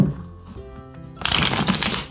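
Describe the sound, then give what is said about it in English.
A deck of cards is shuffled, a quiet ruffle at first that swells into a loud, dense burst of riffling paper in the second half. “Give one more shuffle.”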